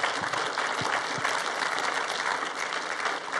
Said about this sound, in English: And if this is your first time here, we just want to welcome you. Right? And we do that around here by clapping for you. We just honor you by clapping for you.